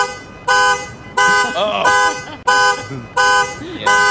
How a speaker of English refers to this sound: You hear a car alarm and it's like, I hope that thing, nobody calls the cops. Right. Nobody does anything, just let it be there.